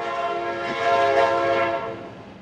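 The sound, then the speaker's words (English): A passing train in Roscoe, a West Texas town of about 1,300 people where trains no longer stop, blares a long, steady horn, loud, swelling to a peak midway and easing slightly as it moves on, with a faint rumble beneath. “All of this came just in time for Roscoe, population 1,300, where the trains don't stop anymore.”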